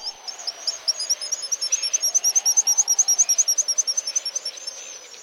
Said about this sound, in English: Ironically, on rare clear days from his campsite on Cooper Island, while he listens to the sounds of the black guillemots, George can see barges delivering supplies and equipment to the oil drilling operations at Prudhoe Bay.